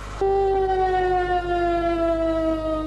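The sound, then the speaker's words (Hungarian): A loud, steady two-minute civil defense warning siren at a disaster-protection drill in Batta, Hungary, wails continuously with a sustained, slowly falling tone, starting abruptly and holding throughout with no voices present. “A bajt vagy gyakorlatot mindig kétperces sziréna hangja jelzi.”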